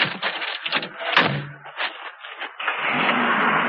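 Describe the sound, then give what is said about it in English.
A few thumps and clunks, then Leland starts a pickup truck and drives it off, the engine holding a steady, loud roar. “Leland's driven off!”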